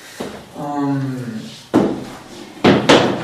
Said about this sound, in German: Und dafür nehme ich den Stuhl jetzt wieder weg.